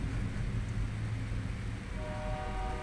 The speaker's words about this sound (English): Here comes the train. Not the same one. This one's a different one. They say there's 125 trains that run through Gallup each day in a 24-hour period.